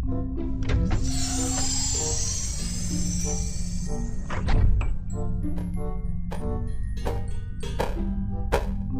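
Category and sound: household object, door being opened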